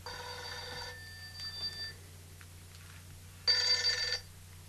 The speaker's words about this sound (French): Mon téléphone.